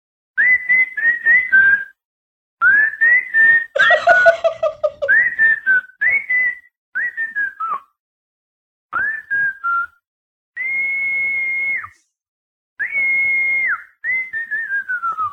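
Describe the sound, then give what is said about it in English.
A person in Ashburn, Virginia whistles a series of short, bright phrases to call their dog, some rising and some falling in pitch, repeated in bursts with brief pauses between them, with no talking. “About to whistle for my dog.”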